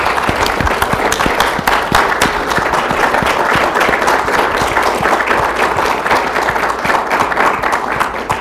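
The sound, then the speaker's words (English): Steady, loud audience applause from a conference crowd for the whole organizing team, many hands clapping in a dense, continuous patter that holds level for the whole stretch with no voices breaking through. “So let's just give the whole team a big round of applause.”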